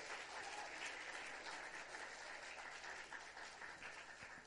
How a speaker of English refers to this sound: While they're coming up, let's give them a big round of applause.